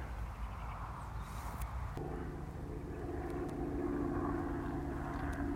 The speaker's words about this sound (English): There's a helicopter flying above